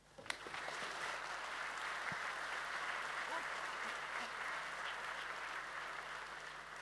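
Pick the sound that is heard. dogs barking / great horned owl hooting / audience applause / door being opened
audience applause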